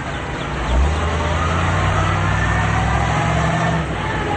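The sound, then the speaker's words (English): A truck engine rumbles steadily as the truck rounds a corner and drives through town, its low drone swelling briefly near the start and holding loud throughout, with faint road noise. “Rounding a corner, they drive through town.”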